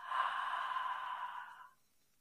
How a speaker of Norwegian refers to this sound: Og inn gjennom nesa. Og ut gjennom munnen. Og inn gjennom nesa. Og ut gjennom munnen.